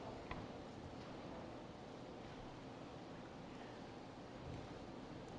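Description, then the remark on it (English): Water streams and splashes steadily out of a punctured container, a continuous hiss and trickle with no pauses and no voices. “So, sprung a leak.”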